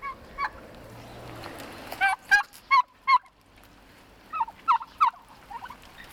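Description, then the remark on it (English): Several friendly, hand-raised turkeys gobble in bursts of rapid, warbling calls, one cluster after another with short pauses between, over a low outdoor hum. “I hand raise them. Hi, guys.”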